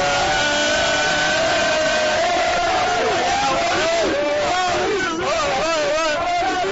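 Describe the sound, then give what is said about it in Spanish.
A dense crowd of students, part of a wave of 4,300 who arrived by bus, shouting and whooping together, loud, with overlapping voices rising and falling in excited waves throughout. “Bueno, por el griterío te puedes imaginar cuáles son las condiciones de la gente a la que se arrimaba el micro y se grababa este documento sonoro.”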